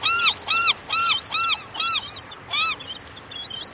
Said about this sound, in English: The long call is just one of this gull's 11 distinct calls. Throughout the spring and summer, during the day and sometimes well into the night, glaucous-winged gull pairs bow as they greet each other with this call.